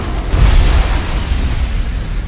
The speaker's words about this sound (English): A huge eruption heralded the impact of the engines into the side of the shield generators. The sky and sea convulsed. A shockwave spread through the facility, making the cloning towers sway.